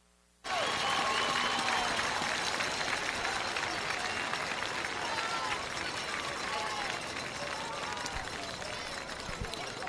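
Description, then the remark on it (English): A large crowd at the 2014 Cal Ripken World Series bursts into loud, sustained applause for Team Mexico after a brief silence. The clapping is dense, with scattered cheers and voices mixed in, holding steady before easing slightly toward the end. “Ladies and gentlemen, please give Team Mexico a huge round of applause for their success here at the 2014 Cal Ripken World Series.”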